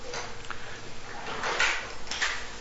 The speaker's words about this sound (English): could you open the door, please?